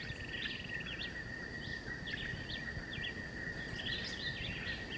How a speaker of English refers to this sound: So there's both John Chewitt and the woodpecker singing. Yeah. John Chewitt is probably 30 meters, and the woodbelly, the vireo, white vireo is back in the edge of the woods, 50 meters.